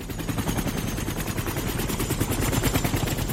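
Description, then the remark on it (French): A helicopter's rotor thumps in a fast, steady chop, loud, with a heavy low rumble and a constant engine whine above it, no voices, as a general descends the helicopter's gangway. “Le général descend la passerelle de l'hélico.”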